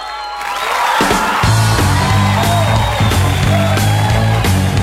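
A crowd applauds and cheers loudly in a dense, continuous wash of clapping and whoops, while music with a steady, pulsing bass beat kicks in after the first second.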